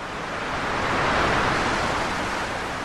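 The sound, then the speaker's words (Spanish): A continuous wash of sea waves at the seashore, a broad hissing roar that swells gently midway and then eases slightly, fairly loud, with no voices. “Al conjuro de las palabras mágicas, asomó el pez entre las olas.”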